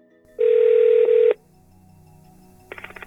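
signal or alarm, telephone being dialed

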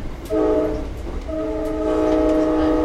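vehicle, train

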